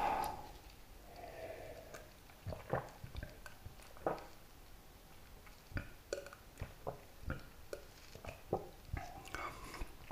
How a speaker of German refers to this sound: Ja, dann zum Wohl. Trinken wir mal ein Stückchen Wasser.